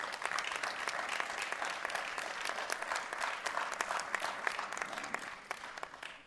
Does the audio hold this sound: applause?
yes